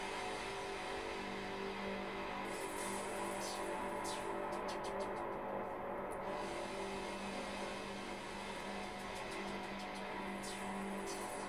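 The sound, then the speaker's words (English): A car, driven by Grim, heads through the desert toward a series of automated water pump plants, with a steady engine rumble and road noise throughout, a low hum underneath and occasional faint clicks and rattles, with no one talking. “You didn't ask for the car, so let me do the driving.”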